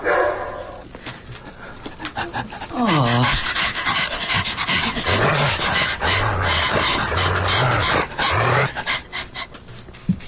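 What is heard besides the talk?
dog barking and panting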